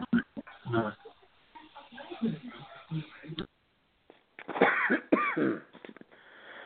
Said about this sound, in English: Sorry about the coughing, allergies.